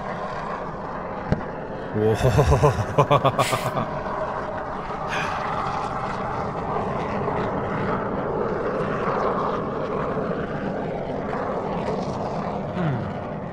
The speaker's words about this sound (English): All right, what do you think? Is that a volcano or is that an aeroplane? Is there any type of airplane specifically it could be? Could it be like a jet or a commercial airliner or? It is a human-made craft that flies through the air.